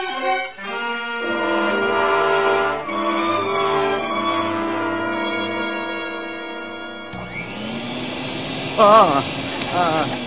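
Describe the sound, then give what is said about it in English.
Partway through, a vacuum cleaner switches on to clean butts off the floor; its motor whines up into a steady, loud roar, with a voice speaking over it. Musical tones play before it starts. “Just running the vacuum.”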